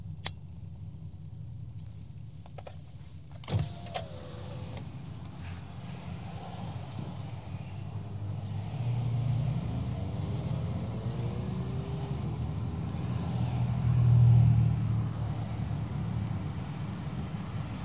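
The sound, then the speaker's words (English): Steady low engine drone and road rumble fill a car's interior, swelling louder twice as it drives, with a couple of sharp clicks early on and no one talking. “God, this is loud in here. This is really freaking loud.”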